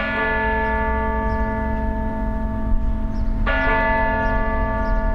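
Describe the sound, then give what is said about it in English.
Church bells ring out loudly during the yearly May Day festivities in Oslo, Norway, recorded by Stephen Feld, with rich, sustained harmonic tones, a fresh strike renewing the resonance about halfway through over a steady low rumble. “We leave you this week ringing in the month of May.”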